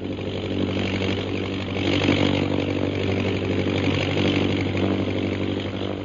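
A steady, buzzing drone of an airplane engine in flight, holding an even pitch with rich low harmonics throughout, slightly swelling in the middle, with no voices.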